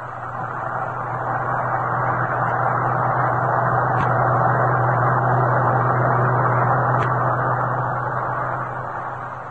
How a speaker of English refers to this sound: You're keeping a check on the number of trucks going past? Yep. That one makes 48. 48 in as many minutes, day in, day out.